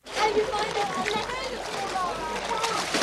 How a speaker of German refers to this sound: 35 Grad und zur Abkühlung einen Sprung in den Pool.